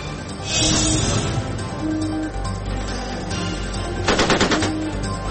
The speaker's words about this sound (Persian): ناو آمریکایی در واکنش به نزدیک شدن یک قایق ایرانی تیر اخطار شلیک کرد.